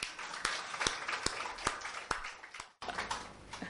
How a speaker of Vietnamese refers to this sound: Vậy mà nãy đồng thanh nói Tào Tháo, cho một tràng pháo tay lớn lên.